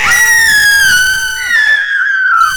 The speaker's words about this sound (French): Puis un peu plus tard dans la nuit, entendent cette fois-là les deux filles qui se mettent à crier, les deux petites filles dans leur chambre un peu plus loin qui se mettent à crier.